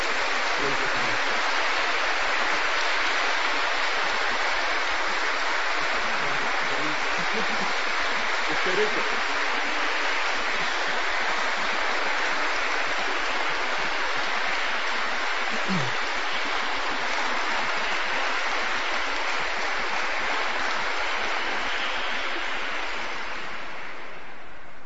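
Sustained applause from a large crowd at an exhibition, thanking the person who worked on it; a dense, steady wash of clapping that carries on without a break for the whole stretch and tapers off slightly near the end.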